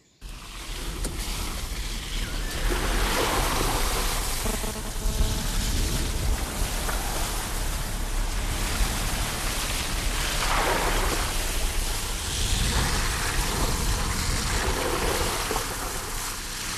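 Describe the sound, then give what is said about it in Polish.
A car drives through water on muddy forest tracks and paths, recorded through an open car window, with constant rushing and splashing and several louder surges as the wheels push through deeper puddles. The sound is fairly loud, with no voices. “Po prostu otworzyłam okno po to, żeby wysunąć delikatnie mikrofon i tak jak Państwo słyszą, my po prostu pływamy troszeczkę po tych duktach i ścieżkach leśnych.”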